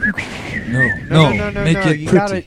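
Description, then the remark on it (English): A thin, steady high note from a penny whistle holds for most of a second, followed by bursts of wavering, sing-song voice sounds. “You can have the penny whistle.”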